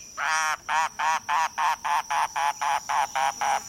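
A mangrove cuckoo calls alone on Key West in the Keys, clear: one drawn-out nasal note followed by a dozen or so short, guttural, croaking notes in a steady, even rhythm.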